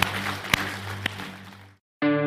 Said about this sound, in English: Let's give the Lord a hand clap because he's good all the time.